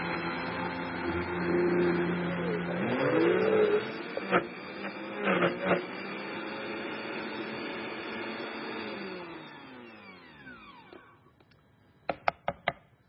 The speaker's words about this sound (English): I've got some frozen banana in here already. I'm just going to add a little bit more. Put the cover on my Vitamix blender here. And let's give this a whirl.